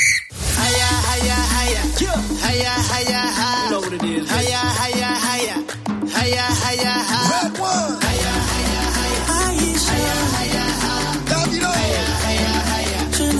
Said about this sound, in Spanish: Y es la banda sonora, la canción oficial de este Mundial de Fútbol,